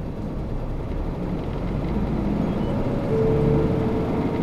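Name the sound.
city bus engine running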